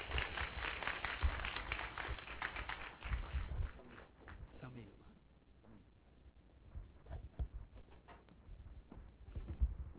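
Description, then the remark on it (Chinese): Audience applause at a lecture, welcoming the speaker: a dense burst of many hands clapping that holds for a few seconds, then thins out and fades as voices start talking. “请各位掌声欢迎，谢谢。”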